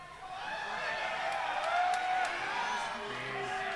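An audience boos together, a steady, dense swell of low voices that holds at a fairly loud level for several seconds with a few scattered shouts mixed in.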